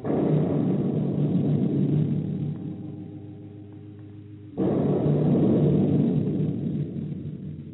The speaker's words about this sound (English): Reverend Mother, I'm frightened by the sound of the gun.